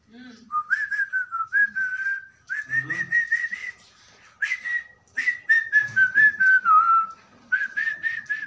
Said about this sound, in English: I don't know any popular Kenyan song. I whistled it.